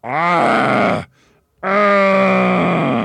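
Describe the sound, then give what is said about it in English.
A voice imitates a man choking and gurgling: two loud, strained, groaning bursts separated by a brief pause, forceful, with no words spoken. “He gaped. He gasped. He gurgled. A few choking sounds came out of his mouth.”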